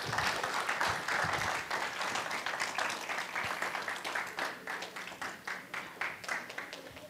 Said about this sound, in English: Let's give them a big hand clap as they come in here.